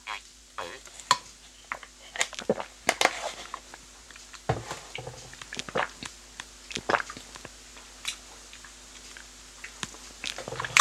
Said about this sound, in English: I think I'm going to have another taste of this cashew nut milk and then I'm going to give my considered opinion. But sorry for the slurping noises it goes through. It's just because I'm drinking it from the carton.